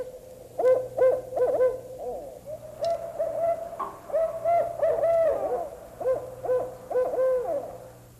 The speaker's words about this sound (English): And this is a barred owl. These are all owls, but they sound different because they're different kinds.